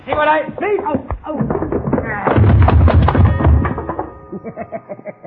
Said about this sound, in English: Madam, Cisco, you hit that coyote so hard, he bang up against the wall and knocked the clock down.